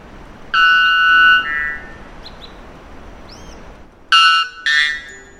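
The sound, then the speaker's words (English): A male white bellbird gives two extremely loud, harsh, metallic calls, the loudest bird call ever documented, recorded by researchers from Brazil. Each is a two-part blast with a rich, ringing tone, separated by a few seconds of quiet background hiss. “This unpleasant noise, or rather song, of the bellbird is the loudest ever documented bird call, when the volume isn't turned down for podcast purposes.”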